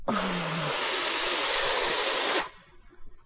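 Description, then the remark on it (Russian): A loud, forceful hissing blast, a donkey letting out its breath with great force like a steam locomotive, holds steady for over two seconds, then cuts off abruptly. No one speaks. “Тут он вдруг обнаружил, что от волнения уже давно не дышит, и выпустил воздух с такой силой, будто он не ослик, а паровоз.”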